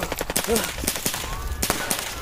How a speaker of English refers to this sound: A shot rings out. I jump to my feet, running as fast as I can, away from the shots.